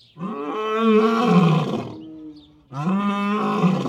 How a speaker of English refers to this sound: African lions carol to each other this cold, sunny afternoon, claiming their stake on Turpentine Creek Wildlife Refuge.